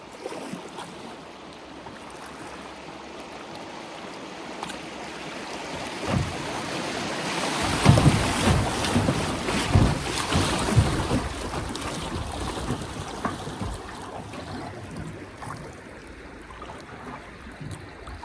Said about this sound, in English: So it looks like we have another rapids here. That's right, and we're gonna stick to the middle of this, where there's whitest water.